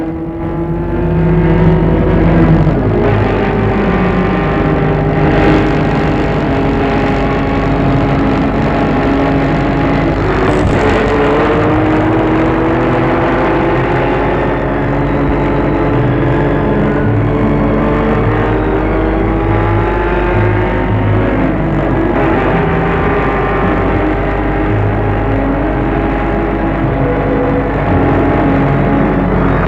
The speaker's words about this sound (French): Il est obligé de rouler des heures sur cette route, de montagne, jusqu'à ce qu'il n'ait plus l'essence.